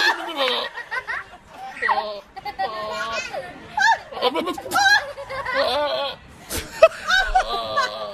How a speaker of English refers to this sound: Sounds like children laughing at a goat.